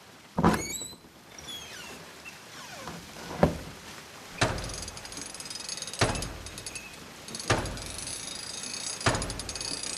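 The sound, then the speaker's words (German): Gears and machinery of a water mill turning at an old house with a water wheel turning in front: a steady mechanical grinding and ratcheting, punctuated by heavy clunks recurring about every one and a half seconds. No one speaks. “Da steht ein altes Haus und ein Wasserrad dreht sich davor.”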